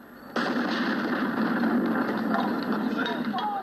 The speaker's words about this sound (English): received a 21-gun salute from Napoleonic-era cannons before he addressed the French nation for the first time as president.